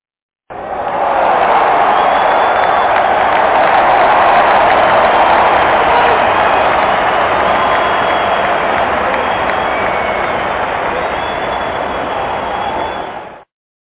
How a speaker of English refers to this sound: I'm trying to let the crowd, I want to hear the crowd response, man.